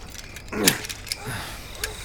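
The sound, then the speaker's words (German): House keys jangle briefly as they are fetched, a quick metallic clinking burst followed by a few lighter rattles against a quiet background. “Wir holen Peters Schlüssel und dann machen wir Schluss für heute.”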